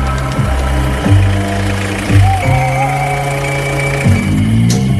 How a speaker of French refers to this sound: Ouais, la meuleuse.